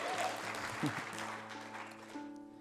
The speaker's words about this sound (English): Yeah, you can clap for the Shenandoah Valley. That's all right.